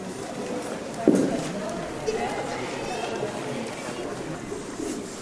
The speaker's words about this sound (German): Und hier ist immer was los, jedenfalls tagsüber an einem Nachmittag wie heute, mitten in der Woche. Hier gehen viele Lübeckerinnen und Lübecker durch und auch viele Besucherinnen und Besucher durch die breite Straße.